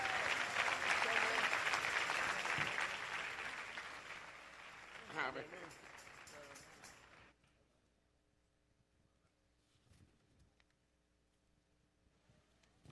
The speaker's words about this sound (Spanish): Un aplauso para ellos.